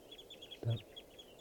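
bird, flock of birds calling

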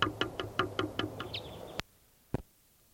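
bird, bird calling

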